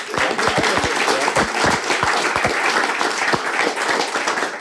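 A crowd applauds steadily, a dense wash of many hands clapping at once with some sharper individual claps standing out, loud throughout.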